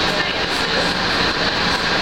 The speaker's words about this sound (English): the monorail car waiting for it to depart to go to the Magic Kingdom